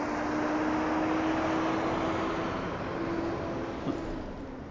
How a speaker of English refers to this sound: Oh, look, it's a giant FedEx truck. I wonder where it's going. You can hear the booster trying its best to charge up. We'll wait for it to pass.